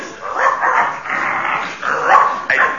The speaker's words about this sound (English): Still no response. But, oh, here's a friendly dog coming to greet us.